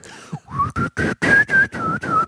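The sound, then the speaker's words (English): A person whistles a short, wavering tune of about seven breathy, uneven notes, fairly loud, with audible air noise and unsteady pitch that makes it sound amateurish. “Most people can't whistle well.”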